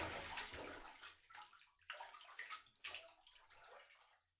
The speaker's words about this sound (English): Here, let me rinse you off with my other hand.